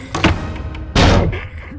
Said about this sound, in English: He charged up to the North Portico, where the director promptly slammed the door in his pugnacious face.